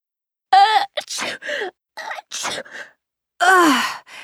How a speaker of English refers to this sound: But isn't it funny how we automatically do that when someone sneezes? It's some kind of superstition, isn't it?